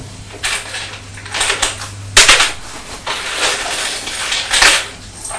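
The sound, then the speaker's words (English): Coins clatter and jangle into the back of a toy bicycle in a series of irregular metallic bursts, with a sharp loud crash in the middle and no voices. “It makes lots of noise when you're throwing the coins into the back of the bicycle, doesn't it?”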